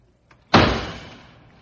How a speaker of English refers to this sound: Junior, how many times must I tell you not to bang the door?